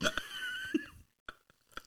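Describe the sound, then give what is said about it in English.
Crunchy chewing of nuts, a handful of sharp, irregular crunches spread across the moment, loud against a quiet background with a faint tonal hum early on. “I can hear you chewing so bad”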